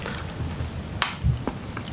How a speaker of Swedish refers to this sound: Jag har en lyssnare som hatar när jag smaskar.